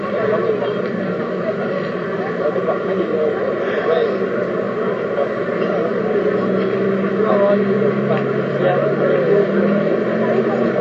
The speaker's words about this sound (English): You can hear an engine behind you now, which is a fire engine.